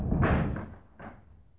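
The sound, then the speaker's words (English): A door blown by the wind bangs shut with a heavy, booming thud, followed a moment later by a second, softer knock as it rattles against its frame. “What is the door? It's making too much noise. The wind is disturbing the life airs.”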